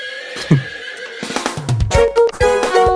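A horse neighs loudly, a shrill, quavering whinny that wavers in pitch for a few seconds, with snorting breaths mixed in and no voices.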